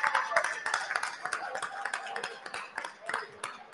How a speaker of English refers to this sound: Round of applause for Amy's, guys.